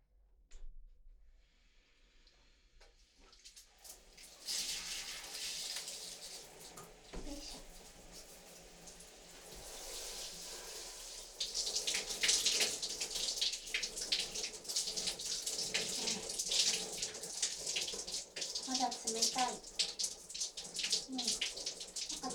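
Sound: shower water running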